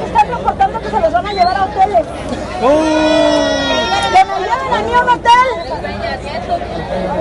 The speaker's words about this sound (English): So what you have is a large group of people surrounding the buses that will not let them off the buses. The police are there.